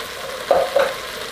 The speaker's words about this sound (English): Then I'm gonna put my spaghetti sauce in there. Yeah. Oh yeah, we're ready now. We are ready now. See that? That means you're ready. Let's go ahead and pour this in. fry it all that up. Fry all of that up.